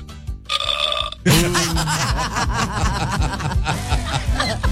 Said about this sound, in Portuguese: Isso aí é um arroto de feijoada.